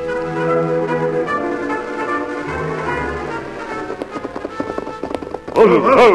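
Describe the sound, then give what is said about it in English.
Galloping hoofbeats of horses ridden by the Lone Ranger and Sheriff Thurman in pursuit of Tonto and the posse clatter in a quick, uneven rhythm beneath sustained dramatic music, growing more distinct toward the end before a loud, wavering cry breaks in. “Then the Lone Ranger and Sheriff Thurman rode in pursuit of Tonto and the posse.”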